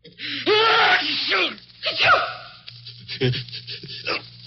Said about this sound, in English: That last sneeze came from but one of 20 million Americans who have colds right now